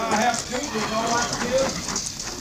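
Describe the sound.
Horses' hooves clip-clop at a steady walking pace as they are led to the stable, partly buried under a murmur of voices and background bustle.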